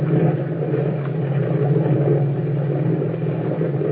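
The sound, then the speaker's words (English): A motorboat engine drones steadily, a dense low hum with a strong steady tone and rough rumble underneath, holding constant loudness throughout with no voices. “Boy, that boat has power. Look at the way we're traveling.”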